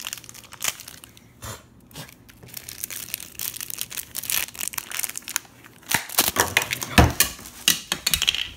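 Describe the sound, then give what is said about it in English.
Crinkly plastic packaging from an Apple Jacks cereal box rustles and crackles as it's unwrapped, a busy stream of sharp crackles with a few louder crunching bursts near the end, no talking. “Oh, oh boy, let's open this.”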